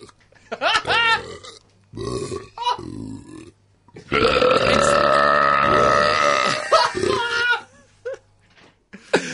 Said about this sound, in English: Oh my Lord. That is just uncontrollable. Oh God. She's trying to press the button, but the burps just keep blowing her back.